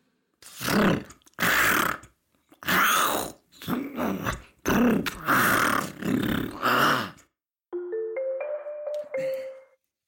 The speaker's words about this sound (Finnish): Mutta eräänä kesäisenä päivänä tapahtui jotain, mikä sai Missen karvat pystyyn ja kehräämisen muuttumaan murinaksi.